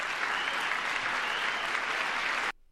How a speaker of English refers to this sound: You know, obviously everyone applauded, including Vice President J.D. Vance. He stood and applauded.